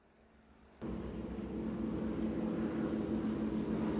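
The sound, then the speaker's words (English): A heavy, droning rumble of twin-engine B-18 bomber planes cuts in abruptly and holds steady and loud as they fly overhead from the north, near the American airbase Camp Hay, with no voices. “Boy, those planes are loud. Yeah, sounds like they're coming from the north.”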